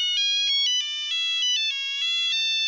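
mobile phone ringtone

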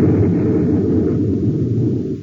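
explosion sound effect

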